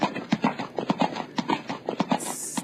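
Horse hooves clip-clop in a steady, fairly quick rhythm, a dozen or so crisp strikes, with a brief hiss of noise near the end.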